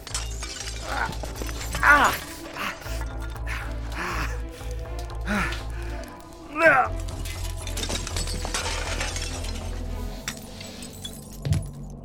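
Shards of broken window glass clink and crunch repeatedly, with sharper tinkling bursts as someone shifts and climbs through what's left of the window, over a steady low rumble in the background.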